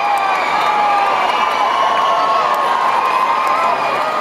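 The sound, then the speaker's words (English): Thousands of teenage girls scream and cheer continuously, a dense, loud wall of high-pitched shrieking that holds steady without a break, like fans at a packed concert. “Close your eyes and imagine thousands of screaming teenage girls.”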